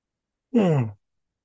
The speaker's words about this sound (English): And I'm going to yawn.